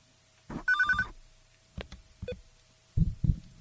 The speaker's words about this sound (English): On the air. Oh, the phone. That throws me when that happens. Oh, my goodness. Saved by the bell.